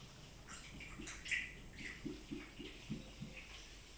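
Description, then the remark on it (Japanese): Chilled sake glugs softly from a small flask into a small sake cup (ochoko) during a shared bath, a short run of quick rhythmic gurgles with faint splashy water sounds around it, quiet. “はい、おちょこどうぞ。入れてくれるの？じゃあ、お願いします。”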